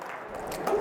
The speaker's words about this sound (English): I know we don't like to do rounds of applause here, but let's give it up.